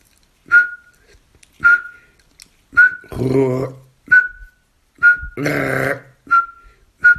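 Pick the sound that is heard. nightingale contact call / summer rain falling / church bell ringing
nightingale contact call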